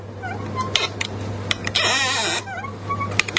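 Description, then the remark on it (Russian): A thin, squeaky creak sound effect: short wavering squeals and clicks, then a longer, harsher grinding creak in the middle, over a steady low hum, with no talking. “Это можно такой сделать, можно потоньше подобрать скрип. Вот это скрип потоньше.”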